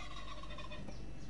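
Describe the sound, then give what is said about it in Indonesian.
A turkey gobbles in a rapid, warbling burst of throaty calls, steady, with no talking over it. “Ayam, ayam masuknya bukan burung. Oh, gitu ya. Ayam kalkun.”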